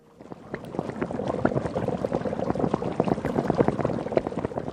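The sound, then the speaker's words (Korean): A pot of soup bubbling at a steady boil, with dense, continuous popping and gurgling, growing slightly louder after the first moment and carrying on without any voices. “바글바글 자글자글 보글보글 끓다 보면 뼈와 살이 모두 녹아 둥글고 그윽해진다.”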